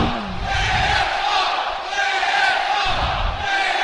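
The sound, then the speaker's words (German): A large football stadium crowd roars and chants as Marvin Ellmann prepares to take a penalty, fans on the north stand moving down to the wall, in a dense, sustained wall of voices, loud and steady throughout with rising swells of cheering and no single voice standing out. “Jetzt ist die Kulisse da.”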